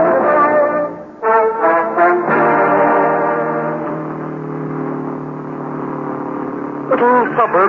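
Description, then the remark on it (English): A voice imitates car traffic on a wet road in wet weather, a steady humming engine drone with wavering pitch, opening and closing with quick revving swoops, loud throughout and with no words spoken. “Plenty of traffic on the road.”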